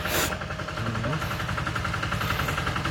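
A tractor-like vehicle coming up from behind and driving along the way: its engine chugs steadily, a low rumbling drone with a rhythmic mechanical throb that holds a fairly constant level throughout.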